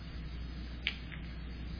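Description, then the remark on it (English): A water bottle cap is twisted off, one small sharp click followed by a fainter second crackle, over a low steady background hum. “Okay, let me uncap the water.”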